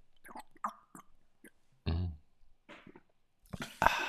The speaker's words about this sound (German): Warte mal, ich trinke mal einen Schluck. Hört mal.